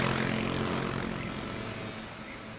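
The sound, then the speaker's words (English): A low, steady motorcycle engine drones with a throaty hum as a motorcycle patrol creeps through a square, easing slightly as it rolls slowly past and begins to fade. No voices accompany it. “As you gaze up at this spectacle, you are commanded to move out of the way as a motorcycle patrol creeps through the square.”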